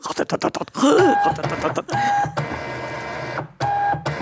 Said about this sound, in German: Ein interessantes Geräusch aus der Inventur wäre der Bickerl-Drucker. Der druckt ja auch 1000 Stück am Stück aus und es ist, als wenn er atmet.